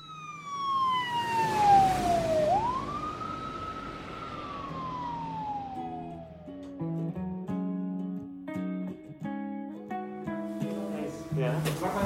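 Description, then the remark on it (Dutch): An ambulance siren wails loudly as a man is taken to the emergency department, its pitch sliding down and then rising again before trailing off after a few seconds, as soft music with steady notes takes over. “En net als zijn vader wordt hij per ambulance afgevoerd naar de spoed.”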